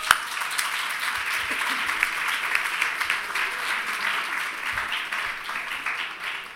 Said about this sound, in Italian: Io vi chiedo subito un applauso per convincervi che si comincia davvero.